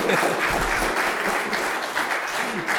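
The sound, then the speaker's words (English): A crowd applauds steadily, dense overlapping hand claps forming a loud, even wash of sound that holds for a few seconds without a break. “Yes, you can clap.”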